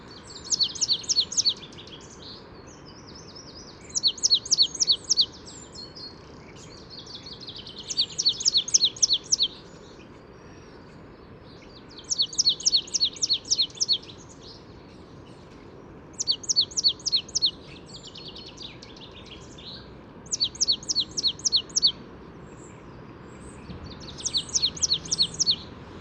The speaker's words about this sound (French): Alors pour le moment, ce matin, on n'entend que des oiseaux sédentaires. C'est-à-dire les migrateurs ne sont pas encore là. Et tous ces oiseaux qui chantent, en fait, sont bien nourris ici, parce qu'il y a des mangeoires un peu partout.